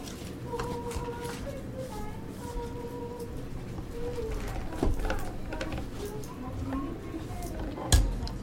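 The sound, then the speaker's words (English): Toy dishes and utensils clink and clatter in an irregular stream while toy waffles are cut into pieces, with a couple of sharper knocks standing out, over a steady background with faint tonal chirps. “Okay, now I just need to cut the waffles in pieces.”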